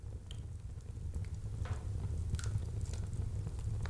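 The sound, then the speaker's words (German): A wood fire crackles steadily over a low, constant rumble, with scattered sharp pops and snaps breaking through at irregular moments. No voices are present. “Das Knistern und Knacken?”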